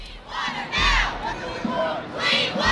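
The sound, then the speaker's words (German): A large crowd of climate protesters demonstrating for better climate protection and demanding decisions from the UN climate summit in New York, chanting and shouting together in loud, rhythmic bursts, with swelling waves of many voices rising and falling over a steady roar. “Auf der ganzen Welt sind schon gestern Hunderttausende Menschen auf die Straße gegangen, haben für einen besseren Klimaschutz demonstriert und Entscheidungen gefordert.”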